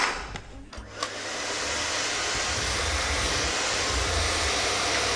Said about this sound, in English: you can have the vacuum cleaner. Thank you. Can I just get the plug out?